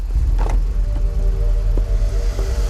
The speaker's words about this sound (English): The car pulls away